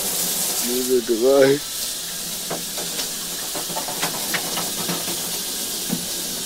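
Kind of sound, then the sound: household object, shower water running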